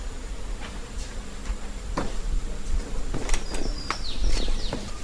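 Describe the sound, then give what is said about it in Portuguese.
A monkey climbing through branches: scattered rustles and sharp crackles of leaves and twigs over a few seconds, with faint high chirps in the background and no voices. “Escutou o macaco subindo?”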